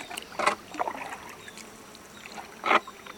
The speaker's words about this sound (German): Am nächsten Morgen mit dem Indianer im Boot. Mit einer Hand rudert er, in der anderen hält er Pfeil und Bogen.